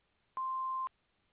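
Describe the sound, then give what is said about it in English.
A single steady electronic answering machine beep at a fixed pitch, lasting about half a second, clear against faint background hiss, with no voices. “after the beep. We will return your call.”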